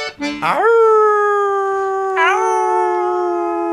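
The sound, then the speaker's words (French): A small dog in a big city howls in a long, sustained wail that rises at the start, holds steady, then lifts again briefly before trailing on, fairly loud with no one speaking. “La ville est bien trop grande pour ce tout petit chien.”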